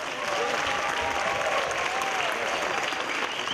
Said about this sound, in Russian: Поэтому я хочу, чтобы сейчас бурно поаплодировали, чтобы они слышали, как гудит зал.